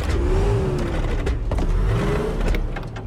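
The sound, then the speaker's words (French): A heavy tank engine, started cold with the choke on and condensation on its spark plugs, roars loudly and steadily, revving up twice with a rising, droning whine over a dense rumbling growl. No voices. “Ok, Gordo, réveille la bête. froide, mets le starter. Il y a de la condensation sur les bougies.”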